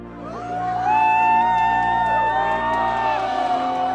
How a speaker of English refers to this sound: Jed turned to face the applause. It grew from a modest murmur into a thundering chorus, hundreds of hands coming together in unison.